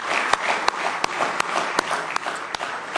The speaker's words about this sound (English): Do you love him better than everything in the world tonight? Let's give him one more good hand clap of praise tonight if you love him.